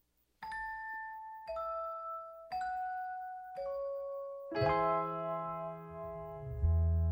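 A Christmas song intro opens with four slow, ringing piano notes, each struck a second apart and left to sustain, before a full chord with deep bass comes in and swells. No singing yet.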